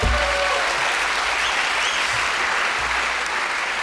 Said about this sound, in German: Ja, Applaus.